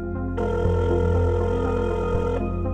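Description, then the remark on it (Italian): An old telephone bell rings once, a loud, continuous trill lasting about two seconds over a steady low hum, with no one speaking. “Da quel momento, e ufficialmente solo da quel momento, il telefono inizia a squillare.”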